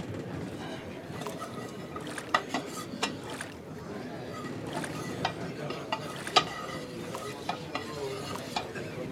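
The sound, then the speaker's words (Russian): Food sizzles steadily in a hot pan while a utensil stirs and scrapes, with sharp clinks popping up every second or so, moderately loud. “Приготовь пожрать!”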